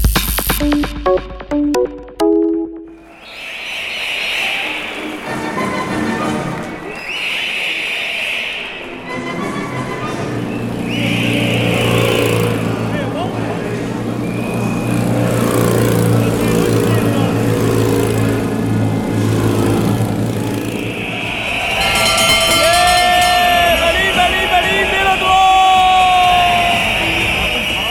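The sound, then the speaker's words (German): A steady engine rumble runs throughout, broken by repeated short shrill whistle blasts and ringing bell-like tones, ending in a cluster of bright, sliding high-pitched tones over the continuing drone. “Pfeifen, Glocken und Motoren, manch einer wird es erkannt haben”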